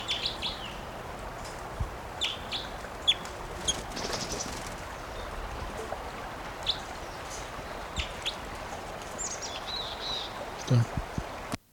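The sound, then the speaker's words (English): Scattered high-pitched chirps and short calls from a wild bird, apparently a female, ring out over a steady hiss of background noise as it is being recorded, repeating irregularly throughout, with a soft thump near the end. “Recording that bird still.”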